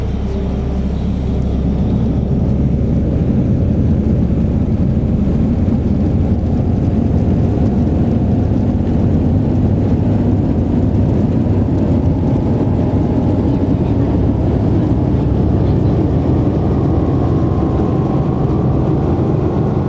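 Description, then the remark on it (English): A steady, loud low roar of airliner cabin noise as the plane prepares for departure fills the whole recording, an even engine drone with a faint airy hiss above it and no voices. “In flight crew, prepare for departure.”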